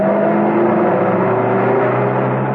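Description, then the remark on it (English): A large saloon car's engine hums steadily at a constant, fairly loud level, with a smooth droning tone as it cruises along an open road, stirring up dust, without pause or other sounds. “A short way away, a large saloon car was stirring the dust from the open road.”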